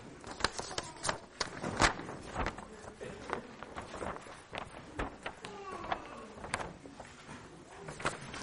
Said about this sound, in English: So for our prayers, you're going to need to take a piece of paper. You've got some on your table. And I would like you to divide it into quarters.